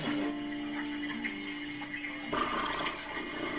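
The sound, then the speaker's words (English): Shower water runs steadily with a constant rushing hiss and a faint low hum underneath. Partway through, the spray shifts and grows a bit louder and splashier. No one speaks. “No, I'm showering.”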